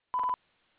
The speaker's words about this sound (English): Leave a message at the beep. At the tone, please record your message.